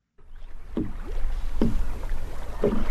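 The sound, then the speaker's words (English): A small rowboat glides across the calm water of Lake Naivasha in Africa, with oars dipping and splashing in a slow, steady rhythm, over a soft wash of water and breeze. “It's called Lake Naivasha, and sitting in a small boat on its water, it looks like an African postcard.”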